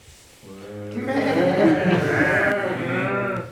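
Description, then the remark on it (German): A sheep bleats in one long, wavering, quavering call that holds for about three seconds, loud, among sheep kept by three shepherds at a campfire one night shortly before Christmas, with no talking around it. “Eines Nachts kurz vor Weihnachten sitzen drei Hirten bei ihren Schafen am Lagerfeuer.”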